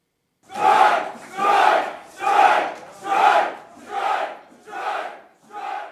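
Striking Boeing machinists in the Pacific Northwest chant in unison on a picket line, seven loud rhythmic shouts repeating at a steady pace, about one per second, with a slight fade toward the end.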